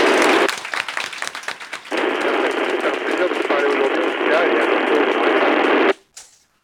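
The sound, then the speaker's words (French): A group applauds over a radio link during a radio contact with the ISS, the clapping thin and crackly, steady for about six seconds before it cuts off abruptly, followed by a short burst of static. “Nous te saluons et t'applaudissons tous.”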